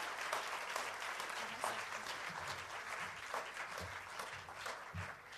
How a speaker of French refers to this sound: Let's give him a hand as he comes on stage.